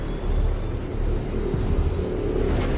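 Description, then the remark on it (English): A train speeds along the tracks, running a red signal and forking right onto a branch line, with a steady, heavy low rumble and broad roar that holds constant throughout, loud, with no voices. “The train speeds on, running a red signal and forking right onto a branch line.”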